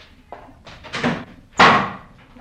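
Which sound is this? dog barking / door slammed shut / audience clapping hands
door slammed shut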